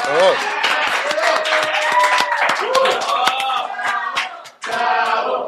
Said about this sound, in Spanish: Aplausos, no sean culés.